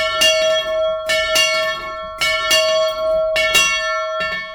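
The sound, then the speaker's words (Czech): A small chapel bell, used as a death knell, rings in repeated strokes in Letohrad, each bright clang followed by a sustained shimmering hum, with brief pauses between strikes and no voices. “Já jsem chtěla zazvonit, ale ten nevím, jestli budeme zvonit, když je umíráček.”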